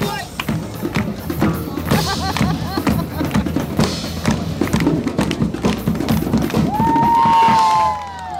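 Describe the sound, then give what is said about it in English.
A large crowd in a park chatters and murmurs steadily around a street performer, with scattered taps and thuds, then a sustained rising whoop or whistle rings out near the end. “And there's a performer over there, which I can tell by the fact that there's a huge crowd gathered around, but I can't tell who it is or what they're doing.”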